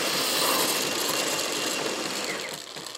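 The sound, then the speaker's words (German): The coffee machine in the Weltladen, a fair-trade shop on Berger Straße in Frankfurt-Bornheim, runs with a steady, loud mechanical whir and hiss that holds constant throughout, easing off slightly near the end, with no voices present. “Die Kaffeemaschine im Weltladen in Frankfurt-Bornheim.”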